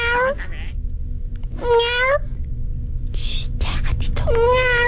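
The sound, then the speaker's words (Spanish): A person imitates a cat, giving three drawn-out, wavering meows spaced about a second apart, fairly loud over a low background hum. “Miau. Miau. Ya, gatito.”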